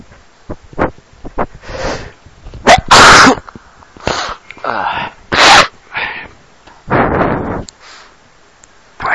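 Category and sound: human body sound, repeated human sneezing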